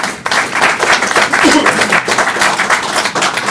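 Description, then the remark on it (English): An audience welcoming a speaker at a talk claps continuously for several seconds, a dense, loud wash of many hands with no pause, faint voices mixed in underneath. “Don't clap until you know I deserve it at the end.”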